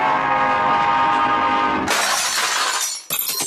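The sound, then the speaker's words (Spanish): A loud, sustained train horn blares for about two seconds, then gives way to a harsh, roaring rush of a train passing, with a brief dip before the clatter resumes. No voices. “¡Súbase al tren! ¡Súbase al tren!”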